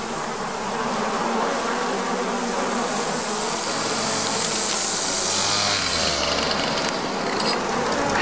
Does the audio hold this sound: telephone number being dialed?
no